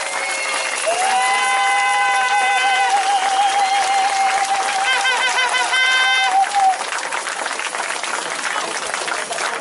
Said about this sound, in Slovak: Takže zatleskajme im.